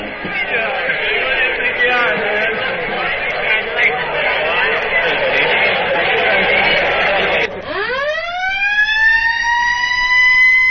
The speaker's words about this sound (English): That siren.